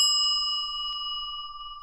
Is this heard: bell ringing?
yes